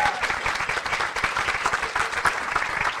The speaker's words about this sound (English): We're very privileged to have Jack, an Essendon legend, I'm told, which is very exciting. So big round of applause for Jack as well.